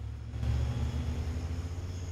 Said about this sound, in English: Jessica looks on as the two teenagers climb into Finn's silver car. She sits back down, and the cars pull away, leaving her looking thoughtful.